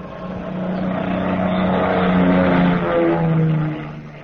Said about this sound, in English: It was 11:30 p.m. when the big plane slowly glided down out of the clear starlit sky.